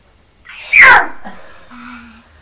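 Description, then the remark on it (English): A single loud sneeze bursts out sharply and then trails off, followed by a faint, soft vocal murmur. “Say bless you to ….”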